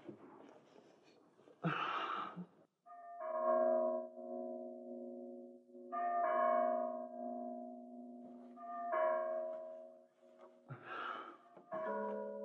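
church bell ringing

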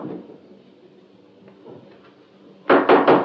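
knocking on a door

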